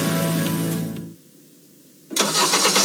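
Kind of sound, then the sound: vehicle, car engine starting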